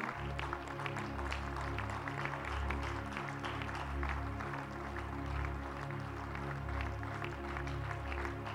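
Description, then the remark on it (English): A church audience claps hands in praise to the Lord: steady, dense applause from many people that continues for several seconds over a sustained, low organ-like chord, with no clear speech. “Would you give the Lord one more hand clap of praise right now?”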